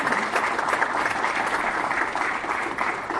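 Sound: applause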